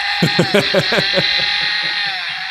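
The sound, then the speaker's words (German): A chainsaw sound effect, brought in by their friend Carlos Gebauer: a loud, steady, buzzing engine whine that sputters in quick rhythmic revs for the first second, then settles into a continuous high drone that slowly fades. “Und er hat uns was Feines mitgebracht. Und zwar. Kettensägen.”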